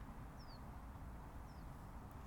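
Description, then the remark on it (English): Two faint, brief bird chirps, each a quick downward whistle about a second apart, against a quiet outdoor background with a low, steady rumble and no talking. “it is silent. Ken, you know, it's quite quiet. You can hear the birds.”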